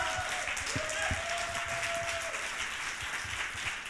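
Steady audience applause as a speaker is invited up to the stage, a dense wash of many hands clapping at an even loudness throughout, with a faint tone briefly running underneath.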